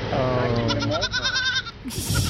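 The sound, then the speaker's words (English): A baby goat, Buttermilk, lets out a long, quavering bleat, its shaky cry rising and wobbling for over a second before a brief rustle of background noise. “And because a lot of it is just like jumping and clearing them, except for the one black goat that he jumps on and pushes off.”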